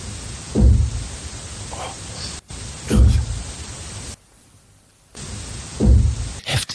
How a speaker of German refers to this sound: Obacht, wir spielen den Ton ab. Spiel's nochmal ab. Obacht, gleich am Anfang hört man's klopfen.